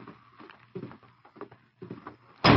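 In a Lone Ranger radio drama, muffled, indistinct voices murmur for a couple of seconds, then Dutch swings a door open abruptly with a sudden loud, noisy burst at the very end.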